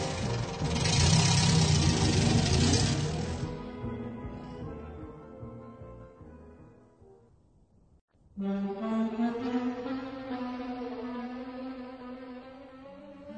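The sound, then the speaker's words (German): A car engine catches suddenly after a loud, rushing noise fades out, then keeps running with a steady, humming rumble as a fleeing man starts the car to get away. No one speaks. “Ach, lasst ihn laufen. Er ist schon beim Auto.”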